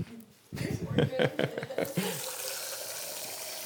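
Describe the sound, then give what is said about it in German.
A person talks briefly, then a steady, hissing stream of alcohol tinted with syrup pours into a container and keeps running to the end, fairly loud and even. “Aber jetzt habe ich gesehen, jetzt habe ich gerade schon zu viel reingeschüttet, die falsche Skala angeschaut.”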